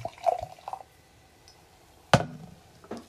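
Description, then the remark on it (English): Tonic water poured from a bottle into glasses, with short splashing and dripping bursts and a sharp clink partway through. Quiet overall, with no talking. “This bottle cap opener is always a little tricky. There we go. All right. Some for you. Thank you. And some for me.”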